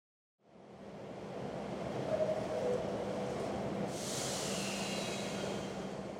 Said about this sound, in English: Wow, there are a lot of people on this subway. I know. I don't see any seats. It is rush hour, but this is terrible.